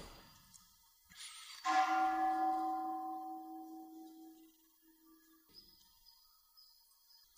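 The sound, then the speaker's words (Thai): A single temple bell is struck, its bright metallic tone ringing out clearly and slowly fading over several seconds, followed by quiet background noise and a faint high whine. “เวลาได้ยินเสียงระฆังแล้วหมาหอนรู้สึกไงรู้สึกเฉยๆใช่ไหม”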